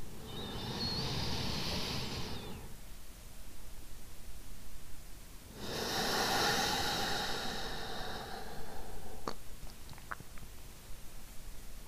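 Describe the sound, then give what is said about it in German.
Two slow, deep breaths into the belly during a guided conscious-breathing exercise, each a long airy whoosh lasting a few seconds, separated by a quiet pause, with faint clicks afterward and no talking. “Allein dieses bewusste Atmen bringt uns sofort in den Moment und raus aus dem bekannten Hustle-Modus und lässt uns mehr landen.”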